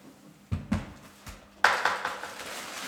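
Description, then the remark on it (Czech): Pages of an original Bible of Kralice from 1587 rustle in a few short, papery bursts, followed by a longer crackling shuffle as pages are turned. The sound is soft and dry, with no voices. “Takže aspoň to šustění bude znít do záznamu.”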